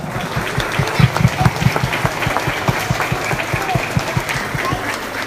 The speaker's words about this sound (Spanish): Gracias, de verdad, si me permiten el aplauso, es para ustedes en esta tarde.